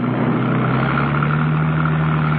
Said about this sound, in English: Conrad, in his car, made after her, heading to cut her off.